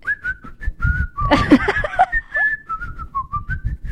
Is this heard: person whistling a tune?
yes